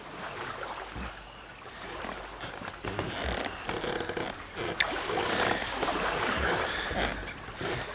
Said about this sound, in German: Pencroft, der Seemann, hatte sich ein einfaches Kanu gebaut. Zusammen mit Neb paddelte er damit an der Küste entlang.